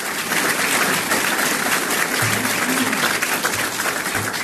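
Steady applause from a sizable audience for the journalists present, a dense continuous patter of clapping that holds at an even loudness throughout, with a faint low murmur beneath it.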